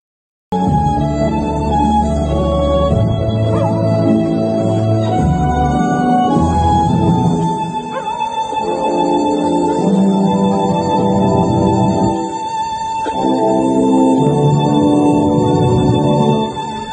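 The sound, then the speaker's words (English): A dog howls and croons in long, wavering notes along with a violin melody played by a man, the two blending into a loud, steady stream of sustained tones for the whole stretch, with no talking. “It's a man, a violin, and a Travis Kelce singing impersonator.”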